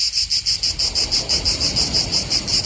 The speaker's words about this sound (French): Et est-ce que vous savez en fait quelle est l'astuce ? Comment elle fait ? Comment elle chante aussi fort la cigale ? Pas du tout, je sais pas. Eh ben en fait, le ventre de la cigale est presque vide. Et ce, pour mieux propager son chant.